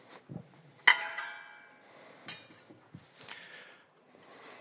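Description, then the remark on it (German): A relatively large metal cooking pot, taken from a props cupboard during a church service, is handled: one loud ringing clank with a long metallic shimmer, then a few softer knocks and scrapes as it is set down and moved. “wenn man jetzt so eine Gemüsesuppe kocht, dann ist das ja ein relativ großer Topf jetzt hier”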